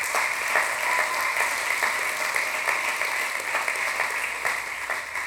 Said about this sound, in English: And just give them one more big hand clap.